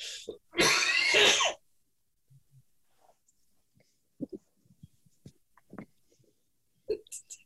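One loud, harsh burst of coughing and throat clearing, then quieter scattered clicks, grunts and small throat noises trailing off.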